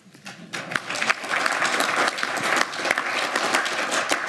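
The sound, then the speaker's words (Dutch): Sustained applause from an audience, dense overlapping claps that swell quickly after a soft start and hold steady and fairly loud throughout, with no voices standing out. “Dat is een applaus waard.”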